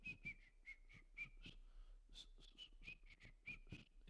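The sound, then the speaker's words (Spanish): A woman whistles a light, choppy tune of short repeated notes while doing a task, fairly quiet, with faint rustling and handling noises underneath. “Anda haciendo la cosa y ella anda silbando, fíjese.”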